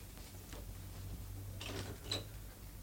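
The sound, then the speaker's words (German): A door is opened after a knock: a soft mechanical rattle of the handle and latch, then a brief sharp click, fairly quiet over a low steady hum with no one speaking. “Mach doch mal auf, Michaeline, sieh mal nach.”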